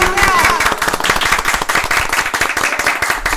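A burst of applause: many hands clapping quickly and unevenly in a dense, loud patter that holds steady throughout, with a brief whistle-like tone early on.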